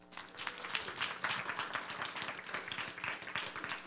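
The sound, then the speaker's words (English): An audience applauds the teens steadily for about four seconds, a dense, even patter of many hands clapping at once, fairly loud throughout with no voices standing out. “Clap it up for our teens.”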